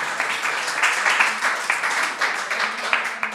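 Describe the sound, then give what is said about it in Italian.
An audience applauds steadily, many hands clapping in a dense, continuous patter that holds at a fairly even loudness throughout, with no voices standing out. “Applausi.”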